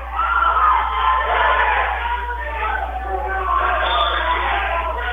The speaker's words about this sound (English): That got the crowd into it there.